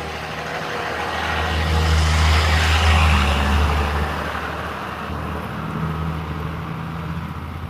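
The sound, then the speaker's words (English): A large school bus rumbles past on a busy street in the morning, its low engine drone swelling to a peak over a few seconds and then fading, with steady traffic noise around it. “School bus.”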